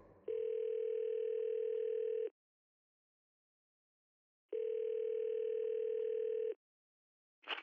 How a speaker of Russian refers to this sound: Его разбудил звук телефонного звонка.